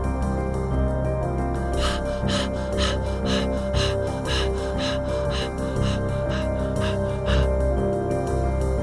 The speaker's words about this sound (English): Keep breathing there very strongly. Feel you're charging your magic symbol with sexual energy.